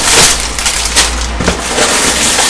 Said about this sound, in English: A big noise? Yes, a big noise. Well, I think it's Rice Krispies when there's a big noise. There's a snap, crackle and pop.